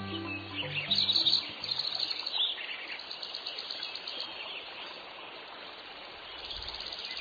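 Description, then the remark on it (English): A chorus of male birds sings the dawn song in spring as early morning light fills the trees, bright overlapping songs and tweets filling the air with a steady background hiss like water. “As early morning light extinguishes the stars, as the first rays of sunlight fill the trees, male birds begin to pour out their songs.”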